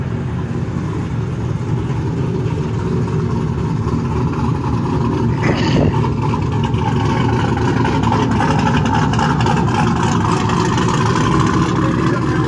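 A steady, loud rumble of engines and tangled-up car traffic on a Dallas street fills the whole stretch, with low idling drones and a brief sharp transient midway through as vehicles move along.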